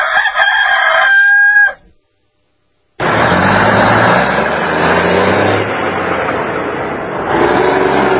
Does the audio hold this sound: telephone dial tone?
no